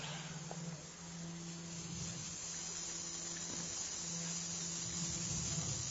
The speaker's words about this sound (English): Become aware of the concert of the grasshoppers. Postanite svesni koncerta zrikavaca.